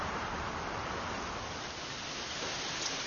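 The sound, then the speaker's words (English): Steady, even rush of wind blowing throughout, a broad hissing whoosh that holds at a constant loudness without gusts or pauses, with no voices. “I want to know if the wind will blow.”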